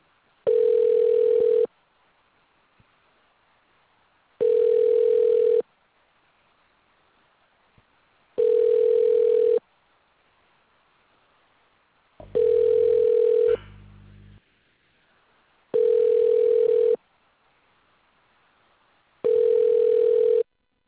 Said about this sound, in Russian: Продолжаем дозваниваться. Оставайтесь на линии.